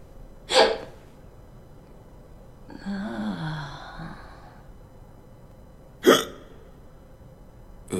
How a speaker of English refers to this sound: Just the hiccup when the drugs hit is such a great little moment.